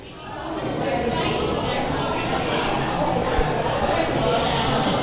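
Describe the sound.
A single voice imitates the murmur of a crowd, a steady, dense babble of indistinct chatter that rises quickly and holds at a fairly loud, even level for several seconds.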